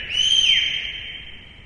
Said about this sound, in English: Do I hear a whistle on David's behalf?